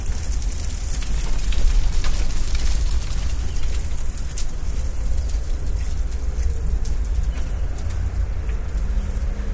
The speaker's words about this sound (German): Klischeehafter konnte man einen Kreuzberger Vormittag nicht einfangen. Vögelgezwitscher, ganz weit im Hintergrund, ich weiß nicht, ob ihr es hören konntet,